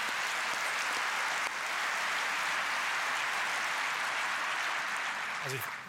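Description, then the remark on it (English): Sustained applause from a crowd, a dense, steady wash of clapping that holds an even loudness for several seconds, with a brief voice surfacing near the end. “And that, I think, is worth an applause.”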